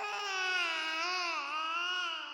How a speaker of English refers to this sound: Then I became aware of a sound. A noise closer to a human infant in pain than anything I'd ever heard a cat make.